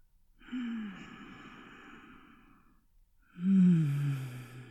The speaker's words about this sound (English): Breathe with me. Match my breathing as I work you up.